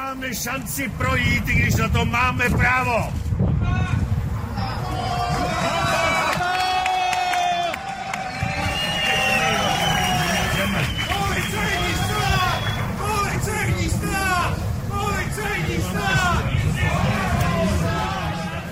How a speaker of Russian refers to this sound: Речь главы оппозиционной партии демонстранты завершили скандированием «Полицейское государство».